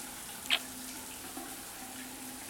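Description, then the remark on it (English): Hot shower water runs in a steady hiss throughout, with steam in the room, one brief sharper splash or knock early on and no voices. “I don't know, there's just something, like, really hot about being in the shower together.”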